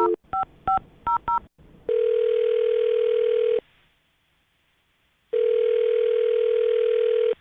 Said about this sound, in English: Here we go. I'm dialing her phone number.